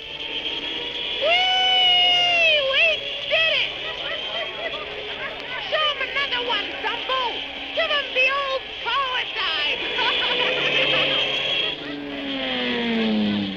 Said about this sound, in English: When Dumbo started power diving and loop the looping all around the big tent, the crowd went mad with delight.